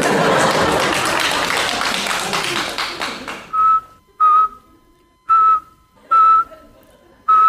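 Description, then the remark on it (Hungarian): After a few seconds of dense, rushing noise, a series of five short, loud whistle blasts follows, each held on the same steady high pitch, with brief quiet gaps between them. “Hatással van-e a Sofián a cigaretta füttye a vetés dézsmáló varnyakra?”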